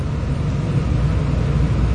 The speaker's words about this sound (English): So tonight is the sound of the air conditioner.